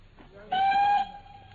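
A single steady train whistle sounds for about half a second, bright and fairly loud, then cuts off over a faint low rumble, at a suburban halt on the way to London. No one speaks.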